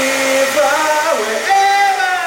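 A hair dryer runs steadily, a loud motor whine with an airy rush whose pitch steps down and back up as the speed shifts. No one speaks.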